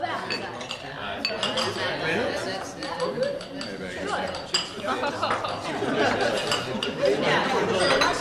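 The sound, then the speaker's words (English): Glasses clink together repeatedly in a toast, bright chinks ringing out over a steady murmur of many people chatting, with a faint clatter of dishes and cutlery. “Join me now in a glass. To your good health, sir.”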